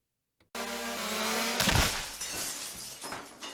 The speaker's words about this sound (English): My drone hit the window. What have I told you about flying that thing in the house?